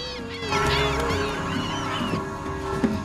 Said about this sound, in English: looks with bleary eyes at the gulls wheeling above the river as day dawns.